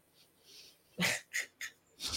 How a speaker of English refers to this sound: Sorry, this dog is snoring.